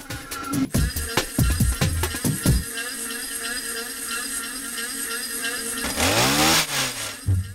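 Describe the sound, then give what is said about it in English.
Gas-powered garden machines, a leaf blower and a weed whacker, played as musical instruments, drone loudly and steadily, with sputtering bursts at the start and a revving whine that rises and falls near the end. “I wanted to play with those, so I would ask them, let's play with these machines, let's play with a leaf blower, with a weed whacker.”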